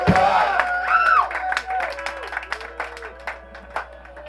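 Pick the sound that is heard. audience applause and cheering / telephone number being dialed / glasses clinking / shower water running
audience applause and cheering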